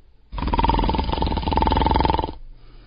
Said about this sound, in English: So, if people are actually sleeping in there, it's a great night for sleeping. It must be the air. It's a great night for snores.